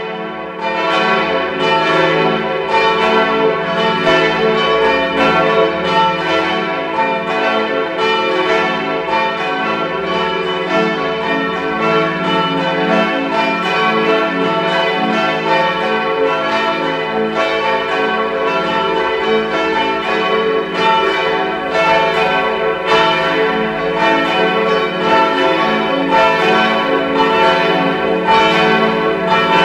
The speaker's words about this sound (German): Es ist 12 Uhr. Sie hören die Glocken der Pfarrkirche Maria am Gestade in Innsbruck.